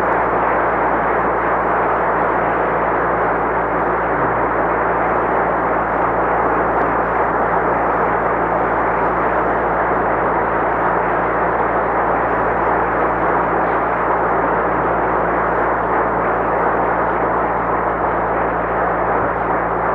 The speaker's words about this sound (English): that applause is an expression of our love and affection for you and for all of our colleagues and fellow students at Springfield.